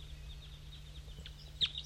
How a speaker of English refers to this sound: Oh, the wild bird is singing. There's a wild bird still up in the dead pine singing.